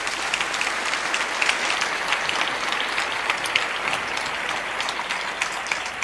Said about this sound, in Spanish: ¿Quién vive? ¿Quién salva? ¿Quién liberta? Dale mejor aplauso al Rey de Reyes.